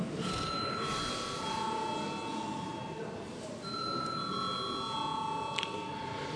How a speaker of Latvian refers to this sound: Paldies, lūdzu zvanu.